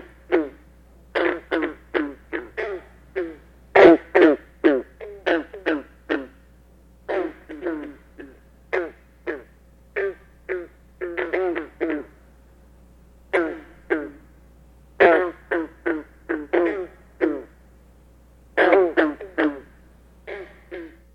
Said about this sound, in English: The explosive, throaty gunk of the green frog, Rana clamitans, sounds like a plucking of a loosely tuned banjo string. In the following example, individual green frogs are heard first, followed by a chorus.